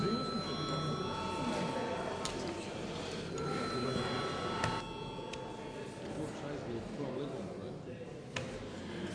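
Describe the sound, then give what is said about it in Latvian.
A continuous electric parliamentary voting bell rings steadily before deputies vote on a bill, a bright metallic tone held for several seconds over a low murmur of background chatter and shuffling. “Lūdzu zvanu.”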